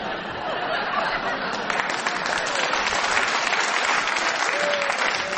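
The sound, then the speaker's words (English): Sustained audience applause, a dense steady patter of many hands clapping at an even level throughout, with faint chuckles and murmurs mixed in, as the audience applauds Paul Merton's challenge in a panel game. “I think the audience applause endorses the shrewdness of your challenge.”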